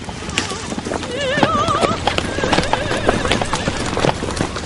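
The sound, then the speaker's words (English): Horse hooves clip-clop in a steady rhythm as a horse-drawn buggy rolls along, and the horse lets out a wavering whinny partway through. “How much did that horse and buggy set us back?”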